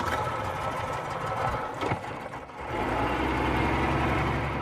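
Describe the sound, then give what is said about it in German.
An outboard motor on a black inflatable boat with a sun sail drones steadily with a rough, buzzing rattle as it glides over the calm water of the Dead Sea in Israel in the late-morning sun, briefly dipping in loudness midway before settling back into its constant hum. No one speaks. “Das schwarze Schlauchboot mit dem Sonnensegel gleitet über das ruhige Wasser.”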